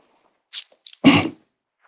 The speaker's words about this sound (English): Bless you.